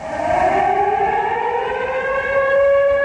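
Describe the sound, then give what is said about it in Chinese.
A steady, sustained air raid warning siren wails with several layered harmonic tones that rise slightly in pitch, loud and continuous throughout with no voices, sounding at the sculpture in the square of the Chinese People's Anti-Japanese Military and Political University Museum in Xingtai, Hebei, as over a thousand people observe a minute's silence for Nanjing Massacre victims. “在位于河北省邢台市的中国人民抗日军政大学陈列馆广场雕塑前，警报长鸣，千余名师生及社会各界人士默哀1分钟，深切缅怀南京大屠杀中的死难者和所有在抗战中壮烈牺牲的英雄先烈遇难同胞。”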